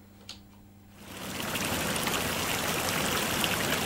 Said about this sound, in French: Elles sont l'habitation cristalline d'esprits des eaux qui sortent parfois de leur cage transparente pour danser au rythme de la chanson du ruisseau.